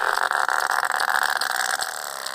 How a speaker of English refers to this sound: And that's what sperm whales sound like.